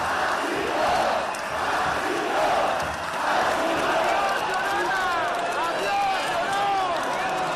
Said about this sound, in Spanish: Cristina Ibarrola abandona el ayuntamiento y lo hace entre gritos de llorona y de agur